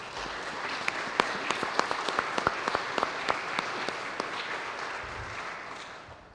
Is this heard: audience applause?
yes